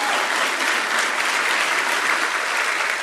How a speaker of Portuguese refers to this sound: Ao terror da Holanda, que nos deu a quarta de final, o nosso querido Branco. Por favor, Branco, receba os nossos aplausos também.